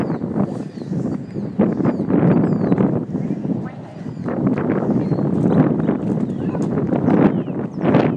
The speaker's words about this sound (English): And we're walking, and I don't know what this is going to sound like because it's very windy.